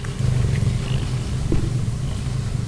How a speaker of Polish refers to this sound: A tak brzemi, czyli a tak brzmi kocie mruczenie.